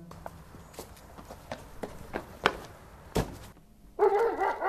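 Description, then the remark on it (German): Steady footsteps tap along, then a dog starts barking loudly in a quick burst at the very end. “Ah, dort ist er mit einem anderen Hund.”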